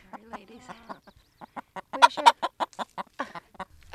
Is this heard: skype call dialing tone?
no